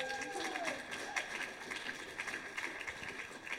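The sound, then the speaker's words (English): An audience in a church applauds with steady, dense clapping that fills the whole stretch at a moderate level. A short rising whistle-like tone briefly cuts through near the start. “Let's give all that a round of applause.”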